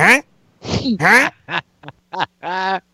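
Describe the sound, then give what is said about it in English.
A person does a nasal, duck-like quacking with their voice: about seven short, uneven bursts, fairly loud, with brief silences between them. “You called me a fucking duck?”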